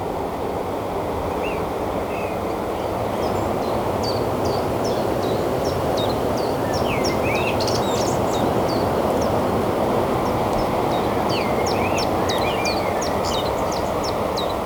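A common blackbird sings in short, repeated phrases of bright whistles and twitters on the Sizon nature reserve in Brittany, overlooking the ocean, partly masked by a steady roar of ocean surf and wind.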